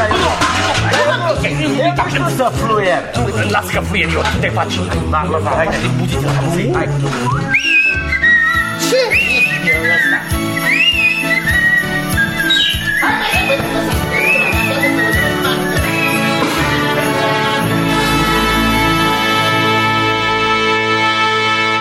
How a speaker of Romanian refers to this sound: Plecăm cu cânte sau cu fluierat? Eu cu fluierat.